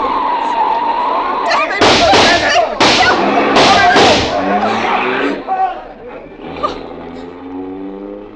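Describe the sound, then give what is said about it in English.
Several loud, sharp gunshot cracks strike a car windshield in quick succession over a steady engine rumble, followed by muffled voices as the vehicle keeps driving. “There's a bullet in the window shield.”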